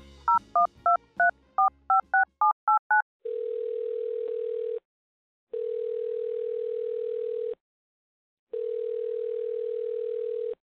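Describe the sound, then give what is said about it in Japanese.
A quick run of about ten telephone keypad beeps as a call is placed to the next caller, followed by three long, steady phone tones separated by short silences, clear with no one speaking. “さあ、次の方にお電話しましょう。”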